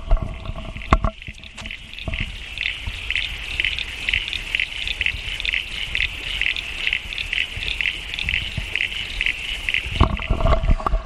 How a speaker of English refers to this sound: Yeah, so that's some frogs now. Friends of mine would be able to identify three or four species just by listening.